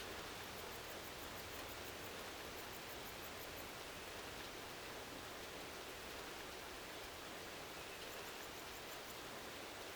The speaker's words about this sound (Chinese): 雨滴落在水中，溅起小小的水花，一滴，两滴，三滴。湖面的涟漪，一圈，两圈，三圈，扩散，